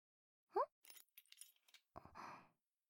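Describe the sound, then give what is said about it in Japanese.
A short jingle of a spare key and clinking coins being passed from hand to hand, a scattered burst of light metallic taps after a brief breathy vocal sound, then a soft rustle. “合鍵とお金？”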